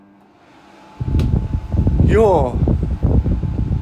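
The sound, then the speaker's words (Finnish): A traditional electric fan switches on after a moment of quiet and blows a loud, steady rush of air strong enough to be felt several metres away, with a person briefly speaking over the whooshing. “No on teho. Tänne, niin se tuntuu monen metrin päähän toi tuuli.”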